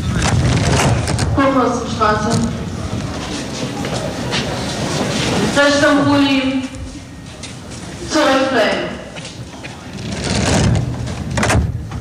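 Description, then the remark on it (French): A metro train coming from the East in Berlin rumbles steadily along on a Saturday morning, with a broad continuous roar, while voices or an announcement speak over the ride in several short bursts. “Regardez, c'est un samedi matin dans le métro qui vient de l'Est, le vrai.”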